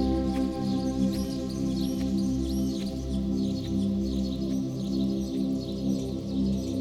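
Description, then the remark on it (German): Scattered bird chirps and tweets repeat throughout in a forest, light and high-pitched, sitting over a steady, loud, low musical drone that fills the background. “Du hörst Vögel zwitschern und du freust dich, den Zauberwald zu betreten.”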